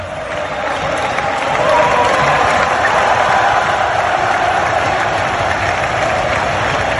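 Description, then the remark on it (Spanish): A huge football stadium crowd in the north stand (fondo norte) of San Mamés roars and chants in unison, giving individual chants to the match's standout footballer. It is a dense, continuous wall of voices that holds loud and steady throughout, with a faint tonal drone in the massed shouting. “incluso dedicándole esos gritos individuales, que en algún momento ha habido algún problema sobre los gritos individuales a los futbolistas, pero bueno, no pasa nada, si ha sido el protagonista del partido se le reconoce y punto, no hay más historia.”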